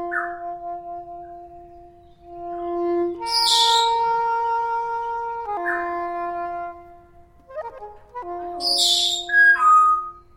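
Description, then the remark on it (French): A white Libiter's cockatoo named Libou calls, mixing long, steady whistled tones with two harsh, raspy screeches, the calls rising and falling over about ten seconds with no one speaking. “Libou, c'est un cacatoès de Libiter qui est né il y a...”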